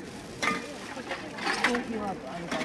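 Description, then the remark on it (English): Bottles clink and knock together in a few sharp, bright bursts as a woman at a door sorts trash, separating bottles from plastic, paper and cardboard for recycling, with voices talking steadily underneath. “there's a lady here at the door sorting the trash and separating the bottles from the plastic, from the paper and the cardboard for recycling.”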